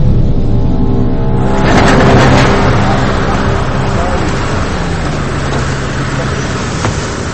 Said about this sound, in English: Turn the engine off.